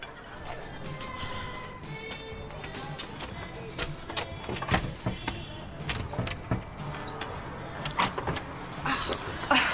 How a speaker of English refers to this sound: Door is hard to open. There goes half a star on my Yelp review.